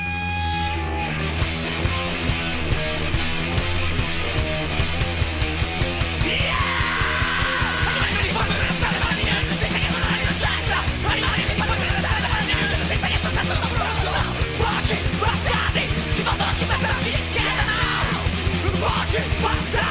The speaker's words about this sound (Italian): E allora, prima di cominciare questa puntatona dell'ACAB, vi mettiamo un pezzo musicale